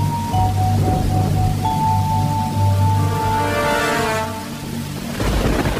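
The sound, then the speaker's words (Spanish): Steady rain hisses evenly throughout, with a deep rumble underneath and a low sustained hum, swelling slightly toward the end; no one speaks. “Llueve.”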